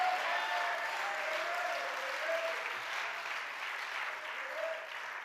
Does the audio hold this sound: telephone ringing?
no